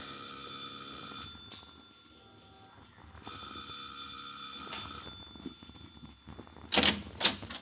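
A doorbell rings twice in long, steady electric bursts with a bright, buzzy metallic tone and a pause between them, followed by a few sharp clattering knocks at the end. No one speaks.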